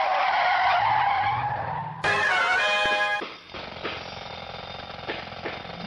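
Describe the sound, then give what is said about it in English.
A loud tire screech as a car skids and peels away, followed by the roar of its engine speeding off, with no talking. “Quick, to the Signature Sign Mobile!”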